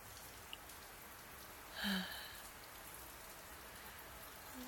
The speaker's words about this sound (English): Your arms feel so nice around me, and I love the sound of rain on the tent.